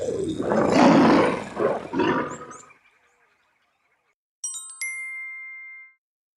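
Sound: lion roaring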